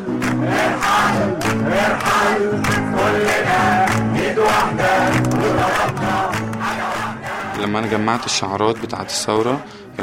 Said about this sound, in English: one based on all the different chants that you'd hear in Tahrir, where at one point he would sing Irhal, Irhal, and the crowd would chant with him. Irhal means go.